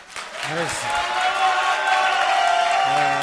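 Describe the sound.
A crowd breaks into steady applause with cheering mixed in, a dense wash of clapping that holds for a few seconds while voices call out over it.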